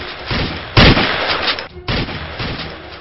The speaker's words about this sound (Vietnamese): Bất ngờ, một loạt súng vang lên bên ngoài, những tia sáng màu vàng loằng nhoằng trong đêm tối.